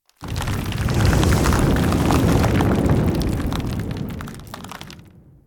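A loud, sustained rumble of thunder rolls for about five seconds as the floor of a room on the 7th level of a tower suddenly opens, full of cracking and splintering noises as if the ground is breaking open, then fades out quickly.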